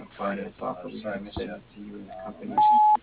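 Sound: voicemail recording tone beep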